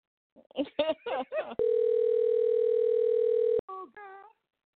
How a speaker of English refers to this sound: Watch this. Listen, y'all. Watch this. It's dialing. Can y'all hear that? He better not answer.